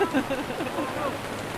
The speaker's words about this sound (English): The rain is, it's rain again after a bit of hail.